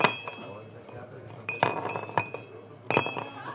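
A 73-year-old man drops ice cubes into a crystal whiskey glass made by the crystal maker Moya; the ice clinks against the glass in several sharp, bright strikes with lingering ringing tones, over a faint background murmur.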